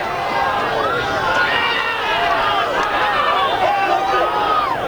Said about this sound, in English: The crowd of people surrounding the NBC news truck.